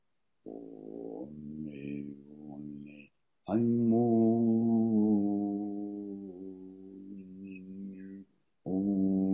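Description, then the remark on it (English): A voice hums a low, steady tone aloud in long sustained breaths, fairly loud, pausing briefly between phrases before starting again, as a chakra exercise meant to vibrate just below the belly button. “Just humming sweetly just below your belly button.”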